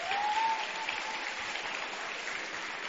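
A crowd applauds steadily, a dense wash of many hands clapping at once that holds an even level for the whole stretch, with a faint whistle-like tone early on, in thanks to the event's animators.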